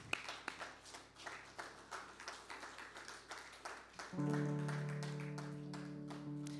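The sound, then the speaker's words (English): An audience claps steadily for the Lord after singing a worship song, a dense, continuous patter; about four seconds in, a sustained keyboard chord swells up beneath the applause and holds to the end. “Can we just clap for the Lord if you believe those truths that we sang and believe that His Spirit is in the room with us even now?”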